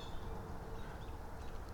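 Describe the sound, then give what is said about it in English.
Birds over a golf course chatter and squawk faintly over a steady outdoor rumble, their thin calls overlapping without a clear rhythm. No one speaks. “You hear these birds complaining? That's over on the golf course.”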